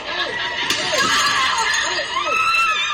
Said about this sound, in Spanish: Los gritos que se escuchan al final son los de los dos grupos de jóvenes que se enfrentaron, dejando a uno de ellos ingresado en el hospital con una puñalada en el costado y a otro detenido.